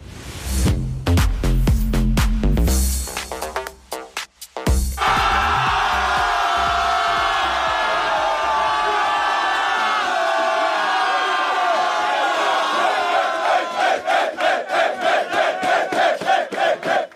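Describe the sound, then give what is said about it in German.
The men of the Austria football team roar and cheer wildly in their locker room after reaching the knockout round, loud, with shouted chanting and rhythmic clapping building toward the end after a brief opening jingle. “Weiter mit dem wahnsinnigen Austria-Jubel aus der Kabine, nachdem es geschafft war, der Einzug in die K.O.-Runde.”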